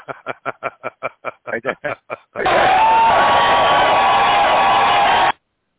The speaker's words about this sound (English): That was your applause, Doug.